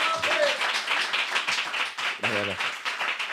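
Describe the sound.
Steady, dense applause from a live comedy show audience welcoming a comedian fills the whole stretch, loud, with a voice briefly cutting in over the clapping.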